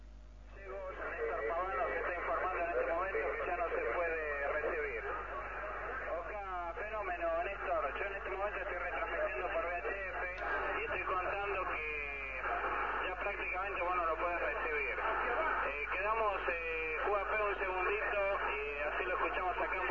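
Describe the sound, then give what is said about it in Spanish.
The first radio signals sent by a satellite, heard at 1:15 as received from Río Gallegos: a continuous, thin-sounding stream of warbling, chirping tones over a steady hiss, fluctuating rapidly in pitch and holding an even loudness throughout. “Bueno, en este momento, a la 1:15, estamos escuchando las primeras señales enviadas por el satélite.”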